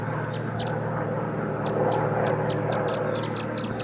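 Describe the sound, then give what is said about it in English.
Wild birds chitter in quick, high, scratchy bursts, repeating irregularly over a steady low droning hum that fills the background. “Here comes the other, and they're chittering a little bit.”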